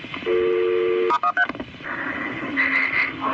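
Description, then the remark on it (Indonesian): Telephone keypad tones as a call is transferred to an ambulance service: a steady dual-pitch tone, then a quick burst of several short dialing beeps, followed by lower electronic line tones, clear with no voices. “Tetap di telepon. Biarkan saya menghubungkan Anda ke layanan ambulans.”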